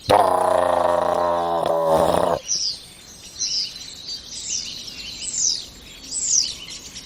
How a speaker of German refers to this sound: Und jetzt geht's gerade richtig ab. Der Star kommt in Fahrt über uns.